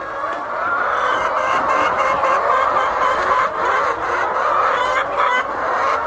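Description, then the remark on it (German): A dense, steady chorus of thousands of chickens clucking together as they peck feed from large troughs in a huge barn at Amas Farm near Accra, a continuous overlapping murmur of squawks and clucks that stays fairly loud throughout, with no talking. “Tausende Hühner picken Futter aus großen Trögen.”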